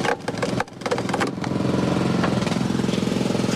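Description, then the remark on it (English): A powered guillotine log splitter on roller wheels runs with a steady, loud engine drone, a few sharp cracking bursts near the start as the blade chops through a big log fed into its side, then continuous mechanical rumbling. “you're sticking it into the side here of the machine, which is on roller wheels, and it just chops it.”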